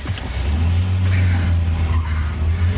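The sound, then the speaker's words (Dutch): A car engine roars loudly at a steady pitch as the car accelerates to chase a motorcycle, with a brief, faint squeal of tires partway through. No one speaks. “Politie, volgt u direct die motor.”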